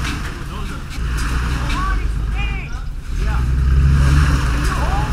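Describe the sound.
A truck engine roars and revs hard while pulling a sled with 350 pounds of steel up a rocky hill, its rumble surging louder partway through as the wheels spin and whine in a rut, with indistinct voices under the noise.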